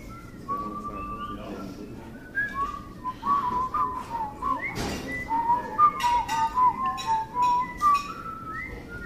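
Several people whistle a tune together, sustained melodic notes rising and falling over a murmuring crowd, with scattered claps and noise in the background.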